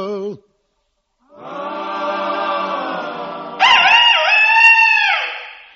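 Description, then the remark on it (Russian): A rooster crows once after a brief opening squawk: a long, loud, harmonic call that steps up in pitch partway through, wavers, then drops off at the end. No one speaks. “Петух пропел неистово.”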